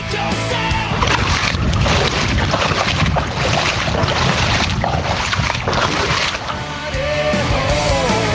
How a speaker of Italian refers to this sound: Venezia, 1,60 di acqua alta di nuovo, sì. Si cammina con l'acqua alle ginocchia, sì. Vento